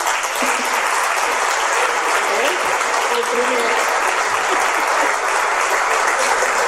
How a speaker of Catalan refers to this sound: Podeu aplaudir, eh?